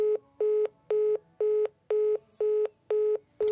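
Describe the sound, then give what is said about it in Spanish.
A phone being hung up, followed by a steady run of short, identical mid-pitched telephone beeps, about two per second, loud and with no voices, ending in an abrupt click. “Chao. Cuelgo.”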